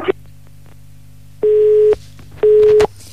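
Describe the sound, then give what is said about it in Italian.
A telephone busy tone after a dropped call: two steady, identical beeps of about half a second each, separated by a short pause, clear over faint line hiss. “E niente, oggi i telefoni ci boicottano completamente.”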